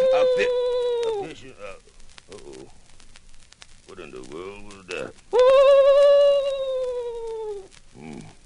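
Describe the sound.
A human voice imitates an owl hooting: two long, loud, drawn-out hoots, sliding slightly downward, with brief murmured vocal sounds between them.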